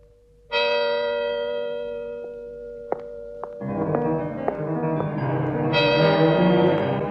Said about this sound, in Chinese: 午夜的钟声敲响了，辛黛瑞拉猛然想起仙姑的忠告，急忙跑出王宫，匆忙中跑掉一只水晶鞋。